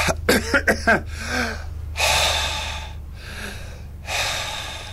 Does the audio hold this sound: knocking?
no